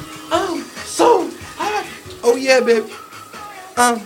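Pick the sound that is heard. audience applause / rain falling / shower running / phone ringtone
shower running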